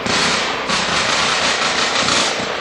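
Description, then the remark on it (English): A sustained exchange of gunfire between police and a man thought to be Dorner, recorded on a cell phone by a KCAL TV reporter, rapid overlapping shots blurring into a harsh, distorted roar. Loud and continuous throughout, with no voices. “The exchange of gunfire between police and the guy that they think was Dorner caught on a cell phone recording by a KCAL TV reporter who happened to be in the area when the whole thing unfolded.”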